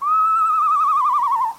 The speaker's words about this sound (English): But very few owls actually make that noise. They have such a wide variety of sounds. They sound like a horse. Like the eastern screech owl.